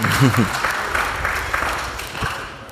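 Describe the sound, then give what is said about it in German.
An audience applauds in a steady, dense wash of clapping that holds for a few seconds and fades slightly at the end, with a voice briefly heard over it at the start. “Da gibt's Applaus.”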